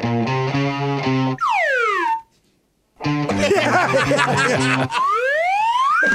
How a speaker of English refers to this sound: The slide whistle can make any song sound better.